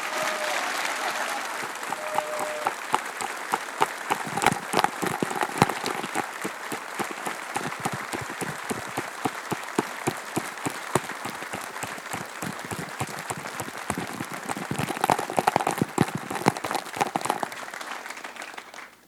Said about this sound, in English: So a round of applause for the O'Donohues.